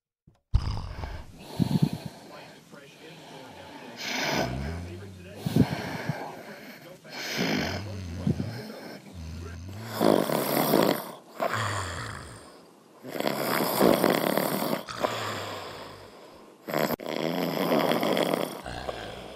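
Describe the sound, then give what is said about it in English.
A man snores loudly, each rasping, snorting breath arriving in a recurring cycle every few seconds with brief quieter gaps between. “We have audio of him snoring and why she...”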